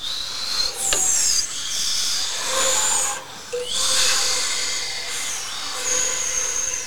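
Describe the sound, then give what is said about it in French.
Cool wind swirls through leaves in steady rustling gusts that swell and ease in waves, a continuous airy hiss with brief dips, with no voices. “Elle adorait se blottir dans son habitat et écouter le vent frais faisant tournoyer les feuilles.”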